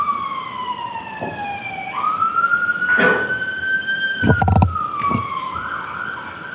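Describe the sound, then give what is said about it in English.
An ambulance siren wails steadily outside a courtroom during a trial, its pitch sliding up then gradually dropping as it passes, with a few brief knocks and thumps. “Hold on, wait for the ambulance and then speak up.”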